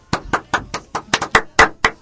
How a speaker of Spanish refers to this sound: Para ¿no? nada, al contrario, contento de tener una nueva integrante de este programa que la recibimos con un fuerte aplauso.